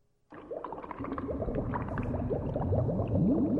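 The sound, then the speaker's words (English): Thick lab chemicals bubble and gurgle continuously after a brief moment of silence, steady, in Dr. Frankenstein's laboratory, with occasional higher-pitched bloops rising out of the churn. “It's lab chemicals.”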